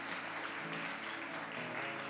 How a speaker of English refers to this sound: Can we give Jesus a round of applause in this place today?